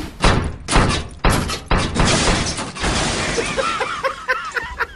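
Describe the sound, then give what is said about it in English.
A refrigerator crashes down a flight of stairs in a series of loud, heavy thuds and bangs, ending in a rattling clatter mixed with high-pitched squeaks and yelps. “I'll just lower this refrigerator down the stairs.”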